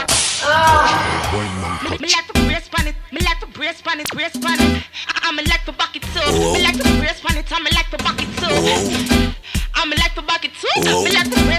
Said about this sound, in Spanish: Métele su latigazo.